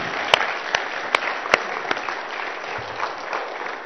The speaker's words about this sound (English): Well, thank you both for coming and sharing. Will you guys give them a round of applause?